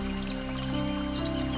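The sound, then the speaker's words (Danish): A small spring-fed stream flowing quietly down through a valley trickles steadily and softly, its gentle continuous babble blending with a low, sustained humming drone, with no talking. “Du kan høre den dejlige, rislende lyd af vandet.”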